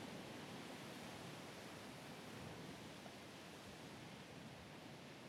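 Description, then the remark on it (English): A steady, continuous wash of ocean waves and flowing water, holding an even level throughout with no distinct breaking waves and no voices. “Let the peaceful rhythm of the waves and flowing waters wash through you.”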